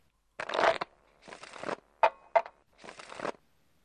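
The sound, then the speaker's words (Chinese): Playing cards are shuffled and dealt: three papery, rustling bursts, broken by two crisp snaps in the middle, with no one talking. “好了，我要开始发牌了。”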